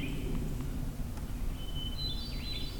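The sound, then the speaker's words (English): Hermit thrush song along a road: clear, flute-like whistled phrases rising in pitch over a steady low rumble of background noise, with no one speaking. “Hermit thrush here again?”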